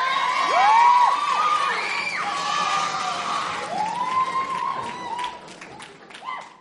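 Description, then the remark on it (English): An audience cheers loudly after a rhyming performance, with rising and falling whoops, chants and shouts over a dense wash of applause, staying steady before tapering off near the end. “Can we give a big round of applause and maybe some chants, some whoops, some what?”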